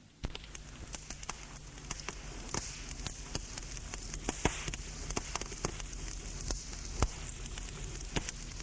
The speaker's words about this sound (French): Le roi se penche légèrement et voit sur le visage de Frédéric le reflet des flammes qui pétillent.